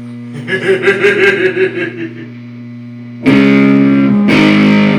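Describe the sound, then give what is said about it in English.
An electric guitar plays a quick picked phrase, then cuts to loud, heavily distorted chords with the gain turned up, ringing out with thick sustain, two big crunchy strums, full, with no one talking. “So was it for the distortion? Just put the gain up a bit?”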